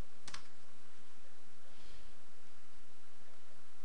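Quick, uneven keyboard typing: a run of light plastic key clicks, with one sharper tap near the start, over a steady hiss. No one speaks.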